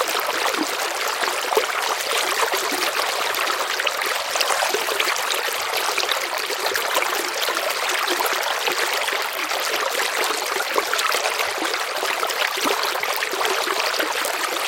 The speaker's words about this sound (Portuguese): O som da água fluindo era como uma canção suave que as guiava ainda mais profundamente na floresta.